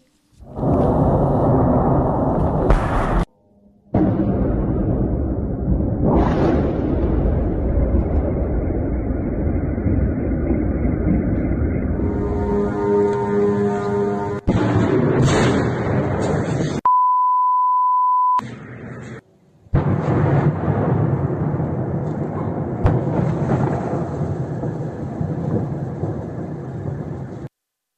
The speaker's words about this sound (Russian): Давайте посмотрим, как выглядела и звучала эта атака шахедами на столицу.